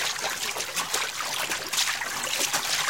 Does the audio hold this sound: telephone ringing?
no